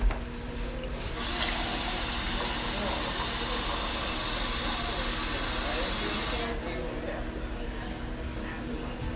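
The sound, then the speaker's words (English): Water pours in a steady, hissing stream for about five seconds, then cuts off abruptly, leaving a faint background murmur. “Can I get some water?”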